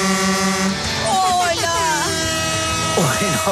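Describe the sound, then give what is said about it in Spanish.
Arriving trucks stuck in a traffic jam honk their horns in a loud, sustained blare throughout, holding steady pitches, with another vehicle honking among them, while voices rise and fall over the top. “Va pitando un, sí, un reggaetonero ahí, va en el trancón.”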